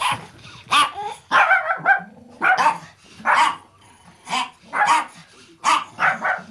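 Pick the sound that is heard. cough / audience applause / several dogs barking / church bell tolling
several dogs barking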